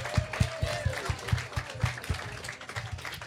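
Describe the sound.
An audience breaks into applause, a dense wash of clapping with steady low thumps pulsing underneath and a murmur of voices mixed in.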